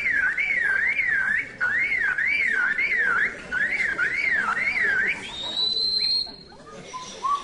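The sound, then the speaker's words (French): A lyrebird mimics a car alarm, looping a warbling, siren-like tone in four quick bursts before breaking into a higher sustained whistle. The bird's voice is loud, with no talking. “Une alarme de voiture.”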